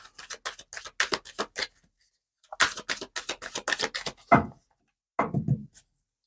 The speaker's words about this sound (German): Ich möchte nochmal schauen, ob es nochmal zusätzlich was zu sagen gibt zum Monat September, zum Rest des Monats September. Ich ziehe nochmal 3 Karten.